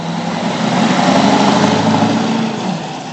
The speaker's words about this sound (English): Log trucks are once again carting timber into the Gunns woodchip mill at Longreach,